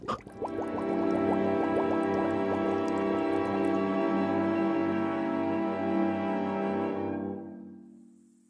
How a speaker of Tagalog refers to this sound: Hindi naman hukulong-kulo yung lana, Kambo. Konting-konting bula lang.